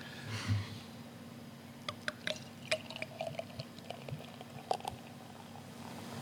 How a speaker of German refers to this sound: Hört man als Brauerin schon, wenn man einschenkt, ob das ein besonders gutes oder ein besonders schlechtes Bier ist? Ich sag mal so, wenn Bröckchen mitfallen, dann hört man es und dann ist es meist nicht gut.